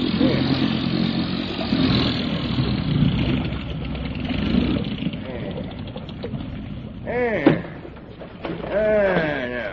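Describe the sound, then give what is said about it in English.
A motorboat engine drones steadily, a rough continuous rumble, then seems to ease off near the end as the boat swings around and the engine is cut, while a couple of voices call out briefly over it. “All right, Lee, swing around and cut the engine.”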